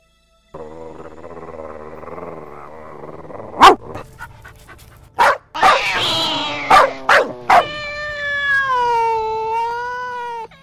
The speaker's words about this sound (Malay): Dalam perjalanan, ia bertemu 3 ekor anjing nakal. 3 anjing itu langsung menyerang Miwa.